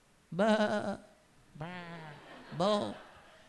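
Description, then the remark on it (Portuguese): A human voice imitates sheep bleating: three quavering, nasal 'baa' calls, fairly loud, the middle one softer and more wavering, with brief pauses between them. “E começou a falar em ovelhês também, conversar com elas.”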